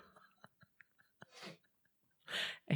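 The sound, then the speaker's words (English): A few faint clicks lead into short, breathy sniffs of air through the nose, the second one louder and sharper, with another abrupt noisy burst right at the end. “I hear the sniff from behind the curtain.”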